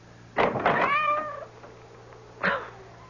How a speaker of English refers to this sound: That cursed cat. Go away. Away. Soaking wet, dripping with water.